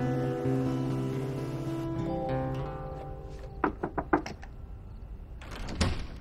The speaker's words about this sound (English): Evening. Louise and Elizabeth dry dishes in the kitchen. Eugene knocks on the door.